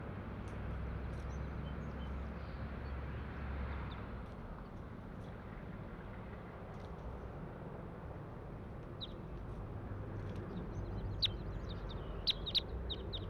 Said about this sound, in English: And this is bird 140 I'm trying to get recordings of.